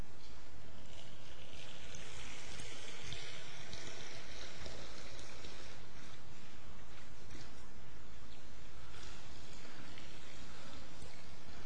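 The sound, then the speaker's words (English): Water pours steadily into a marble baptismal font in a church, a continuous splashing rush that holds at an even level for about twelve seconds with no voices over it. “Now, is that a lot of water?”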